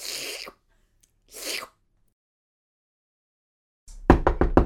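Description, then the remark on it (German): A rapid series of four or five loud knocks on a room door near the end, a mother knocking before bursting into the room, after two soft rustling bursts and a stretch of silence. “Es klopft. Die Tür fliegt auf, seine Mutter stürmt ins Zimmer.”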